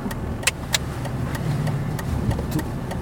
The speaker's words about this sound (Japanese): 久しぶりにドライビング収録してみようかなと思って、今車で買い物に行く途中の車で録音を始めたとです。